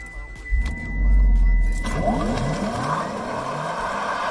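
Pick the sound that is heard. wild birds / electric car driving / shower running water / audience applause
electric car driving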